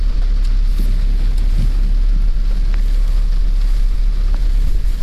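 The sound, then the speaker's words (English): Rain drums steadily on a car, a dense hiss dotted with sharp little ticks of drops, over a constant deep rumble. Nobody speaks. “You can hear the rain from the car. I mean, from the rain hitting the car.”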